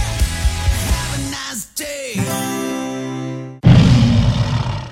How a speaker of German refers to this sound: Was war das denn? Mein Löwensteiner Sportmineralwasser. Das brüllt, wenn's leer ist.